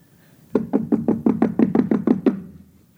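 A neighbor pounds on a door in a rapid series of about ten heavy knocks, evenly spaced and loud, with no voices.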